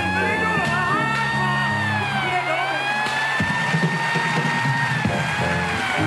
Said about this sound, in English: The audience start booing very quickly. They don't like him at all. They don't think he's funny. They just think he's useless.